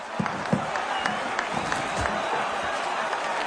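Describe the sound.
Sports writers at a boxing title bout applaud as the fighters go to their corners, with scattered sharp claps over a steady, dense wash of noise and indistinct murmuring voices, holding at an even level throughout.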